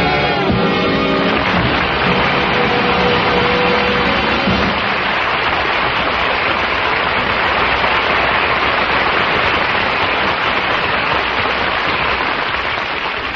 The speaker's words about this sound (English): There's only one thing a taxi has to look out for. That's another taxi. Traffic, too much traffic. Can't they stop this jamboree? Cause there's much too many, much traffic for me.